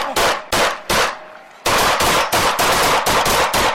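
Loud gunshots, about a dozen sharp cracks: three spaced shots, a brief pause, then a fast, steady volley of rounds fired one after another. No voices are heard.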